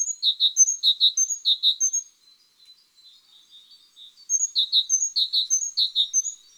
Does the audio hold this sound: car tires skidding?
no